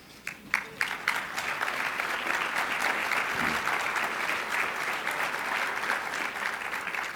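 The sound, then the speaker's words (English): Sustained applause from a crowd of attendees applauding one another, opening with a few sharp claps and swelling into dense, steady clapping that holds at a fairly loud level for several seconds. “So I want to thank you all and ask you, look each other in the eye and give each other a little bit of applause.”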